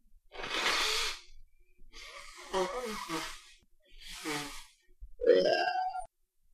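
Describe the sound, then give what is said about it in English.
Someone blows their nose in a few forceful, breathy bursts of hissing air, the last one louder and ending in a wet, honking rasp. “Let me just blow my nose real quick.”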